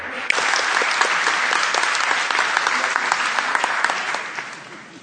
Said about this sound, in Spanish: Vamos a dar un aplauso